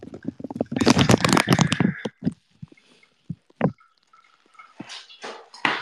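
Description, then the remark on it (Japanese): Wet squishing of fluffy lathered soap foam, a dense squelchy burst for about two seconds, then scattered softer squishes and bubbly crackles. No one speaks. “泡がモコモコするの楽しみたくない？”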